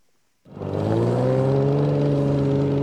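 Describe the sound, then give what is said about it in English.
After a moment of quiet, a race car engine roars to life, a loud, steady rumble whose pitch climbs slightly as it revs and holds for a couple of seconds, at ice racing on a half-mile oval track on frozen Bass Lake, central Minnesota, on a cold Sunday afternoon. “Some of the race cars rumbling on the ice of Bass Lake are dented and dirty.”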